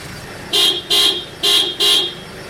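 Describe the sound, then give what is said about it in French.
A truck horn honks four times in quick, evenly spaced, loud blasts, each a short bright toot over faint traffic noise, with no voices, in a border traffic jam in the town of Diboli, where hundreds of trucks are parked and some carrying food try to make their way through. “Parmi les centaines de camions stationnés dans la ville, certains transportent des aliments. Ces derniers tentent de se frayer un chemin.”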